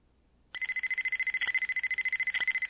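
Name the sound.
alarm sounding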